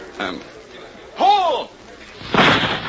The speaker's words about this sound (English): We'll shoot from right here, Miss Oakley. The boy will release the birds at the end of the field, and we'll take alternate shots.